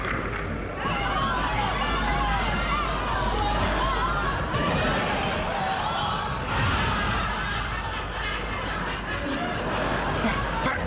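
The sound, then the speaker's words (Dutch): A large audience roars in a dense, continuous wash of crowd noise, loud and steady for the whole stretch, with voices blurring together and no single speaker standing out. “Het publiek brult om je.”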